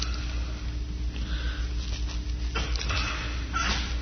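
A sneeze bursts out partway through, a sharp breathy blast against a low steady hum of room noise, followed shortly by a softer second gust.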